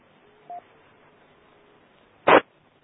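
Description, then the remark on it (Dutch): A brief, faint electronic phone beep, then after a pause a louder, harsher telephone tone burst, both short, against quiet background with no talking. “Ik heb alleen tussendoor telefoon.”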